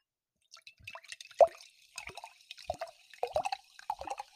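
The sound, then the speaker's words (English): Water pours into a glass in a series of gurgling glugs and drips, each burst bubbling briefly before the next, with no talking over it. “Here, pour me some of that, please, sir.”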